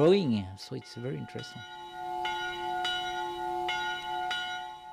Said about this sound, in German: Die Glocken des Maria-Klosters in Munkeby in Norwegen. Sie erinnern die Menschen in der Umgebung immer daran, dass hier seit einigen Jahren wieder Ordensmänner leben und arbeiten.